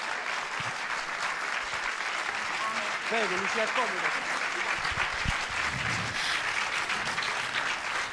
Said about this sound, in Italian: Diciamo ai nostri radioascoltatori che qui siamo tutti in piedi ad applaudire Lucia Poli. Si può sedere. Guarda, non smettono.